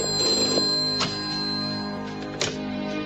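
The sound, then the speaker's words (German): A telephone rings with a steady, bell-like tone lasting about three seconds, with brief sharper bursts partway through. It's clear, and no one speaks. “Ich gehe schon ran”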